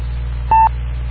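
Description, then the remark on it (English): A single short electronic data-transmission tone, sent as audio from an Android phone, chirps once, clear and fairly loud over a steady low electrical hum, with no voices. “You also use audio to get it off the phone or the Android device itself.”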